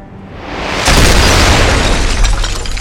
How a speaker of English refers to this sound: The explosion completely engulfed the mansion, blowing it to pieces. Through the rearview mirror, I watch as the flames rage behind me, consuming the place I once called home.